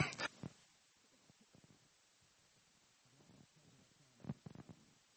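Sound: cough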